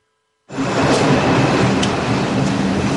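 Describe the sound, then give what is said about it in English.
Loud, steady rumble and roar of a single subway car in motion in America, heard from inside while a camera rolls, kicking in abruptly and continuing with faint rattling and squeals over the rush of the ride. “And in this clip, I'm going to play for you on a single subway car with camera rolling, several of these individuals coming on the train plying their trades.”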